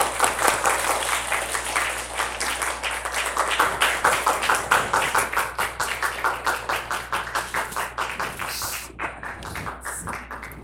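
An audience applauds steadily for about ten seconds, a dense wash of many hands clapping that settles into a rhythmic, loud beat before fading into a few scattered claps at the end.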